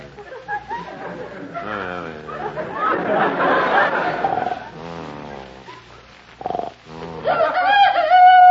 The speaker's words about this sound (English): Quiet. It's just a chicken crowing. Crowing? It's 3 o'clock in the morning. They're not supposed to crow until about 7.